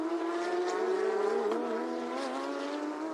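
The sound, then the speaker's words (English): Loud, high-revving racing car engines drone steadily on a track, their pitch rising slightly midway and then easing lower as the cars carry on past. No one speaks. “So need to keep an eye on the 2 Toro Racing cars, which have both made overtaking manoeuvres in the last lap.”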